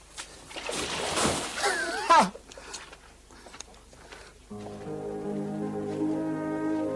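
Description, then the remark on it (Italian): A burst of rushing, splashing water surges loudly for a couple of seconds, then thins to scattered splashes before a sustained musical tone takes over. “Con la sola forza delle braccia deviò due fiumi e poi lasciò che le acque dei fiumi spazzassero via tutto il sudiciume.”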